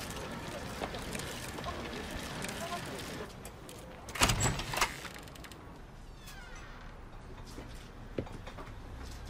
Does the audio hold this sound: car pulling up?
yes